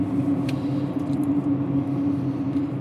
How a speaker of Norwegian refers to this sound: så nå skal dere være så heldige å få bli med inn i min bil.